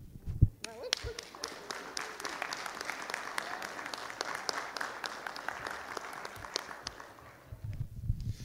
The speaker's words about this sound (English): You want to really give it a whirl this time? And you know, I really like my mom and then my wife, so I'm going to kind of put this down so we can clap.